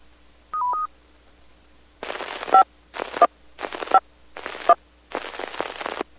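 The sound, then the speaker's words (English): Skywarn weather spotter amateur radio net signalling tones, brought down as the net goes to standby: a brief two-note electronic beep, then five short bursts of hissy radio static, each carrying a faint tone, spaced about a second apart, with no talking. “And as we do not currently have any tornado or severe thunderstorm warnings in effect, I am going to go ahead and bring down the tones.”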